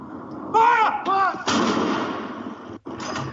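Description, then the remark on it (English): Two heavy cannon blasts from a 41-round gun salute in the UK marking the death of Prince Philip, each a sharp boom rolling into a long echoing rumble, the second following about a second and a half after the first, with brief voices before. “Batteries of cannons in London, Edinburgh, Cardiff, Belfast, and other cities fired 41 rounds.”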